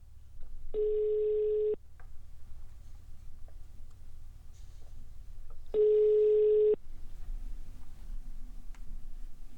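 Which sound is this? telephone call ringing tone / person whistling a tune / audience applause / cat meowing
telephone call ringing tone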